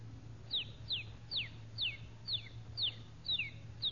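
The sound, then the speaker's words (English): A one-day-old rooster chick peeps steadily in a rapid series of high, downward-sliding chirps, about two per second, fairly clear over a low steady hum. “You've got here The Life of a Rooster in four parts. 1 day, 4 months, a year, and 4 or 5 years old.”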